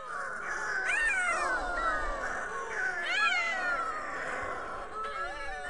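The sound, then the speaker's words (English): Eerie, wailing calls of Yelkouan shearwaters, seabirds endemic to the Mediterranean, overlap continuously, rising and falling harmonic moans that sound almost like crying cats or babies, forming a loud, restless chorus with no talking. “Do you know what these birds sound like? Listen to their mesmerizing calls right here.”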